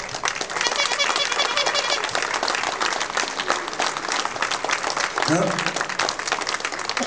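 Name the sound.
audience applause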